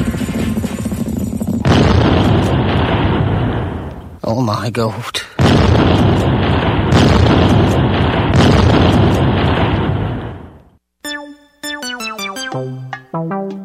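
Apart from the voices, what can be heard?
cannons firing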